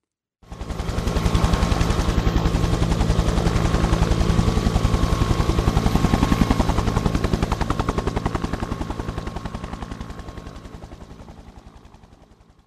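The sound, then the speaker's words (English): A helicopter's rotor beats in a steady rapid chop, loud, with a broad engine roar underneath, slowly fading toward the end as it moves away. “Is it a plane or a helicopter? It's a helicopter.”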